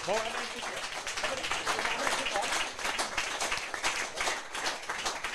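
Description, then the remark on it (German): Steady audience applause as a woman comes forward to the front, with dense, crackling clapping that holds at a fairly loud level for the whole stretch, mixed with a faint wash of crowd voices. “Ein Applaus, sie kommt nach vorne, spielt jawohl.”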